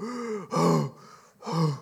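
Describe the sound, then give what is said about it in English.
A person's voice imitates the heavy, labored breathing of a wounded, winded bear: three rasping, groaning breaths in a slow rhythm, fairly loud, with short pauses between them. “I heard him breathing.”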